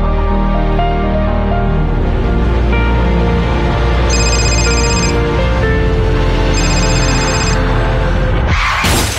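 A phone rings in two short bursts over a loud, dense musical bed in an Italian road-safety announcement about not answering the phone while driving, and a sudden harsh noise burst cuts in at the very end.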